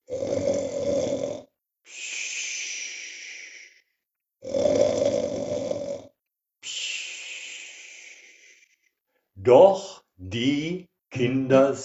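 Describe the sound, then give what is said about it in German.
Two loud, rasping snores from a baker, each followed by a long whistling, hissing exhale, clear, then a few short voiced sounds at the end. “Ui, ui, ui, oh Mann, was der laut schnarchen kann.”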